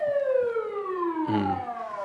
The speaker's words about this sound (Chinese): 这是救护车，我不知道是救护车还是什么啊。